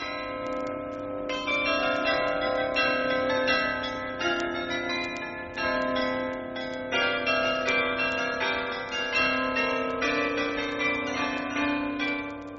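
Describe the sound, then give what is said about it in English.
Several large Dutch bells made for export, shown at the Utrecht Fair, ring in an overlapping, steady peal, their strikes recurring every second or so with long shimmering overtones. The peal is loud, with no voices. “And he was able to listen to that new item at the Utrecht Fair, Dutch bells for export.”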